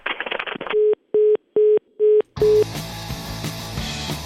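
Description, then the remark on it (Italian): A phone line goes dead after the other party hangs up at the mention of the word 'Ndrangheta, leaving five short, evenly spaced beeps of a steady tone. Loud music cuts in right after the last beep. “Di fronte alla parola andrangheta si chiude il telefono.”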